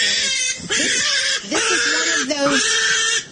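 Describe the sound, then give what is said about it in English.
A small pig, held off the ground on the front porch of a house, screams loud and shrill in a few long, wavering squeals with only brief breaks between them. “The poor etiquette coach is walking up to the front porch of the house, and they're standing there with this pig that's just screaming.”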